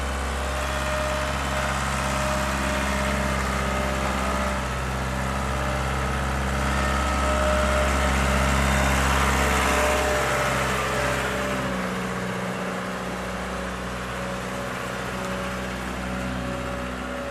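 The engine of a large FDI Sambron forklift with a crane runs steadily, a loud, continuous low rumble with a deep throbbing drone that shifts slightly partway through. No one speaks.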